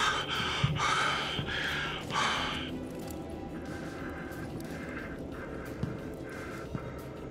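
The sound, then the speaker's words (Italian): Several heavy, ragged gasps come close together at the start, then quieter strained breaths continue at a steady, labored pace from someone short of breath, with no speech. “Mi manca. Mi manca il respiro.”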